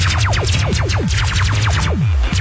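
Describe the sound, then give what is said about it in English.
Rapid-fire laser zaps, a dozen or so quick descending 'pew' sweeps overlapping in a steady barrage, loud, over a low continuous hum. “Or lasers?”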